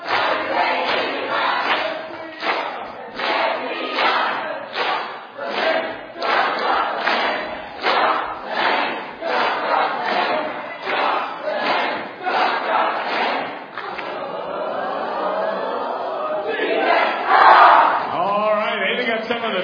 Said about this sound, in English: This is going to be a positive cheer.